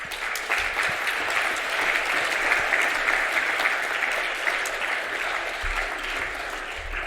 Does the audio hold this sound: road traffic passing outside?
no